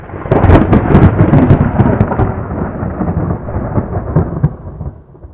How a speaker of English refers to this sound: Thunder. I was like, and the thunder scared me too. And I thought, what the hell? There was no sound to accompany my retinal detachment last time. This all happened. It really did. And then I realized it was thunder.